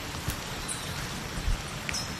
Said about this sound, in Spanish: Están escuchando cómo suena la lluvia en la Amazonía peruana. Estamos en la comunidad indígena de Barranca.